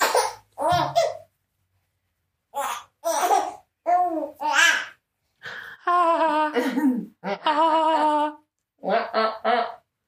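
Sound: baby babbling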